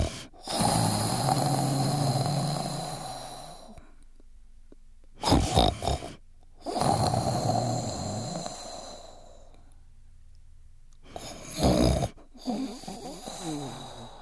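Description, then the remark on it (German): A voice imitates loud snoring: two long, rasping inhaled snores, each followed by a short puffing exhale, repeated in a slow, exaggerated rhythm with no speech. “alle Zäule auf dem Waldboden und schnarchelt.”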